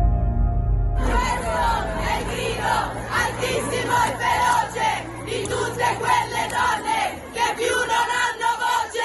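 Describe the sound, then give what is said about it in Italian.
A large crowd in a square roars in a loud, fierce collective shout of protest against men's violence against women, voices overlapping in a sustained, rising and falling clamor with a steady low rumble underneath. “Il grido altissimo e feroce lo hanno sentito tutti ed è un vero peccato che qualcuno abbia cercato di piegarlo a intenti che non aveva, di descrivere come violenta una piazza che era il contrario e che diceva molti no alla violenza degli uomini”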